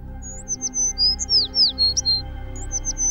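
sparrow chirping

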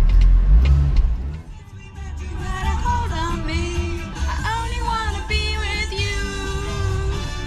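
car driving and accelerating

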